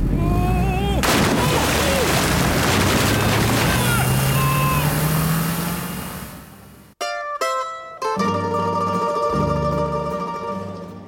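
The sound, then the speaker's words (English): A powerboat engine, towing a water skier to Venice, roars over rushing, splashing water for about seven seconds, its low drone climbing steadily in pitch, before it cuts off abruptly and gives way to steady tonal sounds. “Well, I'm just glad to be out of that powerboat.”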